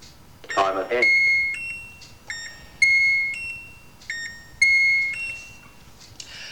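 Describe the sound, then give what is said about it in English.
A microwave timer in the UK finishes a 20-second countdown with a run of bright electronic beeps, several short tones stepping between pitches in a steady repeating pattern, fairly loud, after a brief voice at the start. “Timer time is 20 seconds. So it's now going to run for 20 seconds. And it will let us know when it's finished.”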